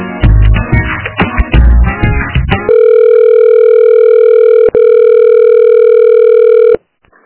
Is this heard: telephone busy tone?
yes